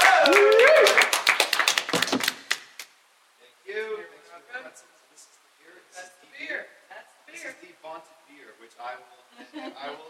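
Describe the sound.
A loud burst of audience clapping for a brewmaster coming up to the stage, with many overlapping claps lasting a couple of seconds, then cutting off abruptly, followed by a person talking alone.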